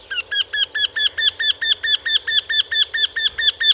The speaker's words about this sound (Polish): Ponadto u krętogłowa pierwsze sylaby są nieco niższe, a potem wysokość dźwięku jest jednakowa.